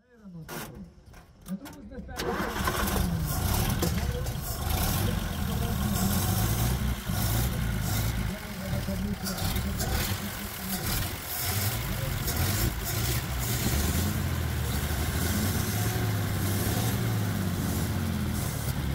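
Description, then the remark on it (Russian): The engine of an unrestored 1929 Revo Flying Cloud car in authentic condition starts up after a couple of quiet seconds, then runs with a steady, rough, loud rumble. Indistinct voices may sit under the noise. “Машина не отреставрирована. Она в аутентичном состоянии. В каком виде довелось ей оказаться в любящих руках, в таком и ездит.”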